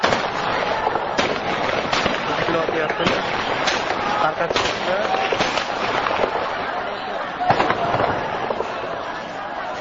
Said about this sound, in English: At several points, gunfire can be heard nearby.